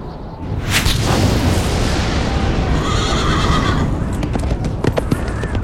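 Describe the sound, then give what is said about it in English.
A white horse whinnies loudly over a deep, steady rumble like thunder or booms, followed by a few sharp hoof clops near the end. No one speaks. “And I looked, and behold, a white horse.”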